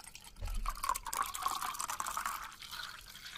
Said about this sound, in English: All right, we poured up, ready to spill some of this juice.